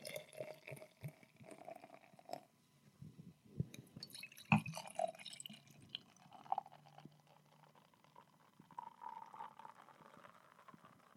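Use Bone Vat 92 Mono Blend beer pours into a glass with a glugging, splashing liquid sound, followed by soft fizzing and dripping; a sharp clink of glass sounds midway.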